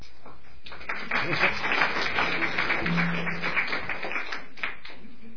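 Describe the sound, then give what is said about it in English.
After a Bible reading, an audience breaks into steady, dense applause that swells within the first second and continues evenly for several seconds, many hands clapping at once before tapering off. “I think the next reading will not clap.”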